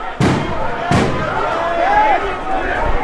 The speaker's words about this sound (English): But the celebration is cut short. Police throw tear gas into the crowd after clashing with some protesters.